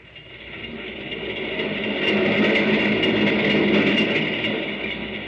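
A moving train rumbles steadily, swelling louder midway, with a faint rhythmic clatter of wheels over the tracks beneath a broad hiss. No voices are heard.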